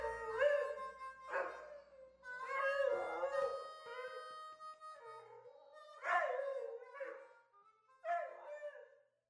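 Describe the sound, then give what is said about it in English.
A dog howls in several long, wavering bursts, rising and falling in pitch with short pauses between them, loud, with no one talking. “credited with The Howl, Emma the Lucky Dog”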